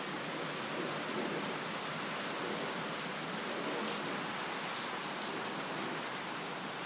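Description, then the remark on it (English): Heavy, torrential rain pours down steadily, a dense, constant hiss of drops drumming on surfaces with occasional brighter patters, loud, with no thunder and no voices throughout. “Anyway, that was quite random, but I just wanted to demonstrate the absolute torrential, well, I don't know if it's torrential, but it's very, very loud and uproarious and downpour of rain.”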